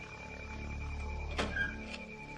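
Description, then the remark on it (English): In a cellar, over a steady low mechanical hum, an old furnace door clanks open with a brief metallic squeak as someone opens it to pull out a rag, then a lighter knock follows a moment later. “Nancy approaches the old furnace. She opens its door and pulls out the gray tattered rag.”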